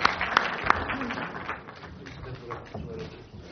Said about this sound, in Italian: Vi ringrazio, un bel applauso